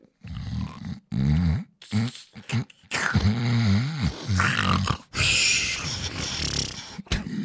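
A man vocally imitates the way a friend with sleep apnea snores in his sleep: loud, irregular bursts of rasping snores, snorts and groaning grunts broken by short silent pauses, ending in harsh, breathy gasps.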